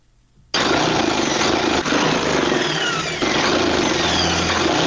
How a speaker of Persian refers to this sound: با ماشین خیاطیش در حال دوختن لباس عیدی برای یکی از مشتریانش در شهر کابل است.